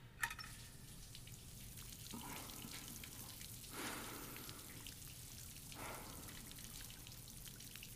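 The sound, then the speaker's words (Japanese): Steady running water from a shower fills the space with a continuous hiss and patter, swelling slightly in places. No one speaks. “俺が運んでやるから一緒にシャワー浴びような。”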